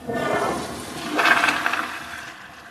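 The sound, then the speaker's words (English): A toilet in a building restroom at the San Francisco Public Utilities Commission, running on recycled water treated with UV and chlorine, flushes with a broad, hissing rush of water that swells to a louder gurgling surge midway, then trails off into a softer drain. No voices are heard. “Let's get another flush.”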